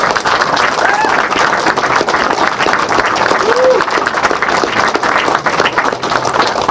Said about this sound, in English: So, a round of applause for the both of them.